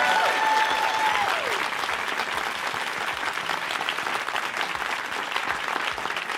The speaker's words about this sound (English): Again, we really wanted to thank our guests. If we can give our guests a massive round of applause for being here.